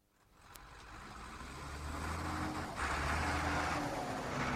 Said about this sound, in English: I could hear the tractor as I drove up